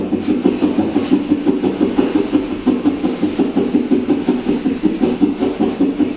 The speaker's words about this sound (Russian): Ну, короче, давайте дальше мы дышим хастрикой. Глазки закрыты. Быстрый вдох, выдох носом, как я вам показала. Поехали.